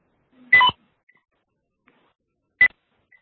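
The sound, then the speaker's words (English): Two short electronic tones over a phone line during a group call, a double-pitched beep followed about two seconds later by a single shorter one, clear and fairly loud against silence. “Does everybody hear a beeping?”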